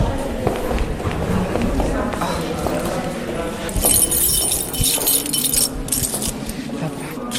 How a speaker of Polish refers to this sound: Klucze. Otwieramy się. Czas na otwarcie biblioteki.